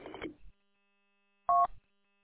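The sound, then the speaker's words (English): A short burst of clatter, then after a pause a single crisp, loud touch-tone beep from the keypad of a Cisco 525 IP phone, lasting a fraction of a second. “But guess what saved the day? The super duper IP phone, the Cisco 525.”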